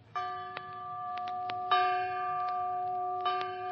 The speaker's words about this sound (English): A three-bell picture starring Richard Widmark, Dana Andrews, and Gary Merrill.